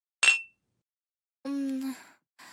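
glasses clinking

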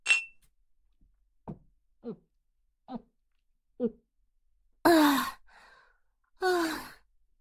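glasses clinking

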